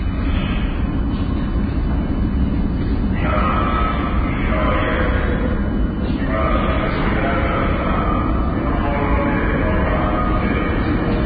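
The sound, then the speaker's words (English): Loud, steady rumble of a subway train fills the whole stretch, a dense low roar with shifting metallic mid-range noise and faint indistinct voices mixed into the din. “That's right, the sound of a subway.”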